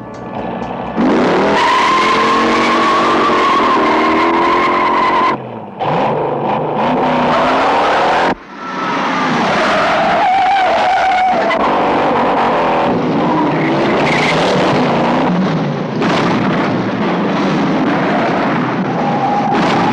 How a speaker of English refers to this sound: Man, I picked a movie from 1968, one of the best car chases ever to grace the big screen, Steve McQueen's Bullet.